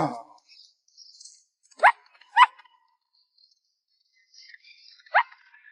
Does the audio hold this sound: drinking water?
no